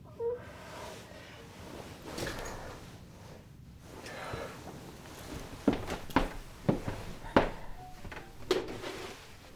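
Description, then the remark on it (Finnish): Several sharp wooden knocks and clunks as a daughter shuts a box she had unlocked with a key. They land close together over a quiet, rustling background, with a few soft thumps earlier on. “Sulkee laatikon”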